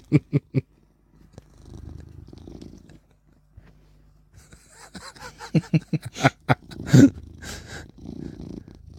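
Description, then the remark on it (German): A male cat purrs, a low continuous rumble in steady waves, broken by a few sharp taps and rustling handling noises at the start and again toward the end. “Oh, ich höre den Kater.”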